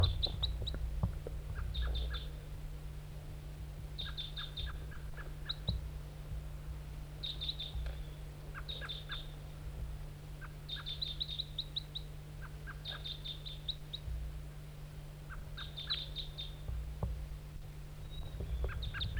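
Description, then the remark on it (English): A wild bird, a lone bright red male perched in a spruce tree by a net, gives repeated short, high-pitched chirping calls in brief clusters of two to four notes, steady throughout over a constant low hum, with no talking. “Wild bird, back to the decoy.”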